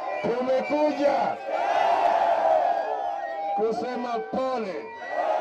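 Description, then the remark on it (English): A large, enthusiastic crowd of supporters of Kenyan opposition leader Raila Odinga and his NASA coalition cheers and shouts, with many voices overlapping into a loud, steady roar that holds for several seconds. Individual raised calls stand out above the mass of voices. “But Odinga and his NASA coalition members say that the election was stolen from them and reiterated that position to the enthusiastic crowd.”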